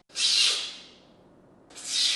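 Two loud, airy slurps, a professional coffee taster, a Master Coffee Cupper at Folgers Coffee, sucking coffee sharply off a spoon in the Cincinnati tasting lab to check that the coffee tastes the same; each a hissing, spraying burst separated by a short quiet pause, with no talking.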